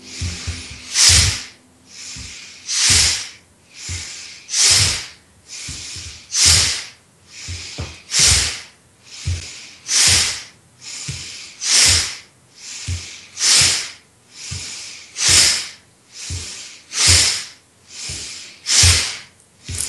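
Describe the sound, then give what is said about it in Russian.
Fast, forceful breaths puff in and out at a steady, quick rhythm during a breathing exercise. Loud and airy, with a hissing, snorting edge and no talking. “Делаем обычный вдох, обычный выдох. И дышим. Вдох, выдох.”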